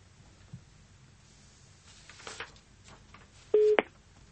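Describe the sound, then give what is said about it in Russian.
A single brief, steady telephone ring-back tone sounds out loudly near the end, preceded by faint line hiss and a few soft clicks, as a phone number is dialed live on air by the radio station Echo of Moscow. No one speaks. “Мы не слышим гудков. Слышим гудки.”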